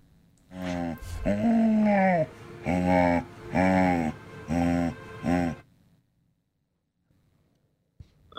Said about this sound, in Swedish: Lätt som en ko. Du tänkte ko? Jag tänkte, alltså det låter som en säl, tänkte jag. Jaha. Jag vet inte varför jag tänkte säl. Men det kan också vara en chihuahua. Men jag säger säl. Okej, det är en hund. Va? Det är en hund.